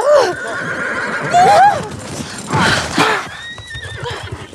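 In a TV drama scene, a horse nearly throws its rider, neighing loudly and repeatedly, its whinnies rising and falling, while hooves clatter in a rapid, uneven rhythm, with a faint voice briefly in the background.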